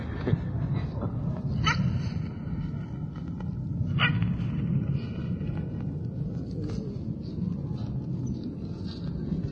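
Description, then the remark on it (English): Dogs bark in a few sharp, scattered bursts over a steady low rumble of background noise. “This is dog business.”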